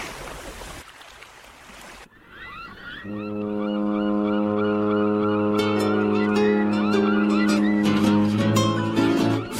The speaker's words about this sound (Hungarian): Már közeledik a hajó, halljátok ti is a tenger zúgását s a hajó kürtjét.